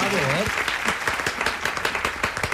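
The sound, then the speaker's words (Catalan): A big round of applause from a crowd on a Catalan-language radio show, dense and sustained with many overlapping claps, following a brief spoken voice at the very start. “Un aplaudiment d'aquells grossos.”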